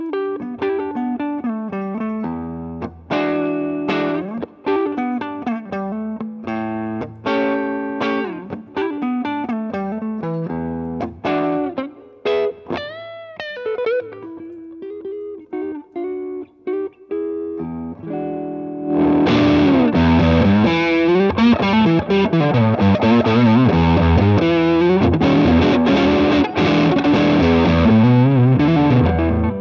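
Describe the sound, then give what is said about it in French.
Electric guitar through an amplifier with distortion, played alone, its tone very responsive to the guitar's volume knob and the selected pickup: lighter, less saturated picked notes at first, then a jump to a much louder, thick, heavily distorted sound of sustained chords and riffs. “Comme je vous l'ai fait entendre dans l'intro, très réactif au potard de volume et au micro enclenché.”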